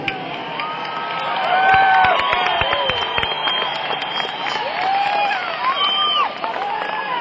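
A crowd applauds steadily for several seconds, dense clapping mixed with whoops and rising, sliding whistles and cheers, staying loud throughout.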